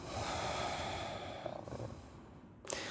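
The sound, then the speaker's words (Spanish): A long, airy exhalation through the nose during a guided breathing meditation, a steady breathy hiss that gradually fades away, followed near the end by one brief, sharper puff of breath. No one speaks. “Exhalamos.”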